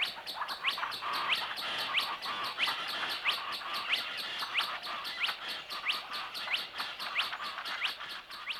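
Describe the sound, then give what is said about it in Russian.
Birds chirp steadily in a forest outside the city in July, a dense run of quick rising tweets repeating about every half second, with several birds overlapping at moderate level and no voices. “Мы сейчас отправимся за город, в лес, вместе с нашими корреспондентами и узнаем, как растут лесные детеныши, как воспитывают, защищают и кормят своих детей звери и птицы.”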